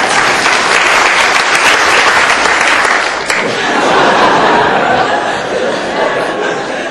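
An audience breaks into sustained, loud applause, a dense steady patter of many hands clapping that holds for several seconds with a brief dip midway, with faint chuckles and chatter mixed in.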